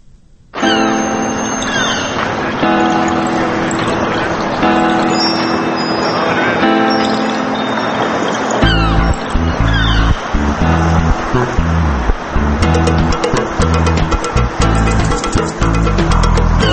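A pop song intro starts with sustained melodic synth tones, then a heavy rhythmic bassline and steady beat kick in about halfway through, playing loud and full without any vocals.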